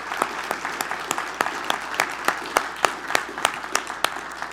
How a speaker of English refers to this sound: Shall we applaud and celebrate this day? Yay.